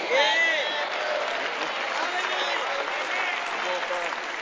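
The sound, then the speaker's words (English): An audience at a sermon claps steadily throughout, a dense, continuous patter of many hands, with scattered voices calling out over the applause, loudest at the very start. “I don't see no young people clapping.”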